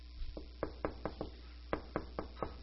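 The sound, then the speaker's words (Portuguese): Knocking on a door in two insistent bursts: four sharp raps, a short pause, then five more, clear over a faint low hum, with no talking. “Não, você torna a bater. Você insiste em bater.”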